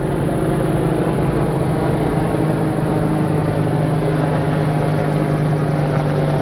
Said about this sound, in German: Auch wirklich zwei riesigen Riesenbrocken von Hubschrauber, die da gerade über mir wegfliegen. Ziemlich tief. Meine Fresse.